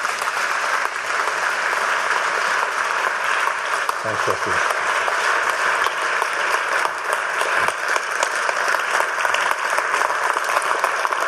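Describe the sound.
Steady, loud applause from an audience welcoming a speaker up to give an evening talk fills the whole stretch, a dense crackle of many hands clapping, with a brief spoken thanks cutting through near the middle.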